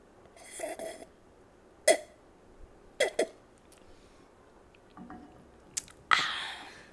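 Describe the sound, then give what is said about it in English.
Wet mouth sounds of someone sipping wine: a few short slurps and swallows spaced irregularly, with a louder, breathier sip near the end, and no talking. “I need a sip of wine.”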